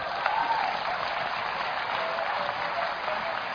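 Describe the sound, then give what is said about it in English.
Steady, dense applause from an audience, many hands clapping at once in a continuous crisp wash of sound at an even loudness throughout, with no voices standing out. “Clap, clap, clap, clap, clap, clap, clap, clap.”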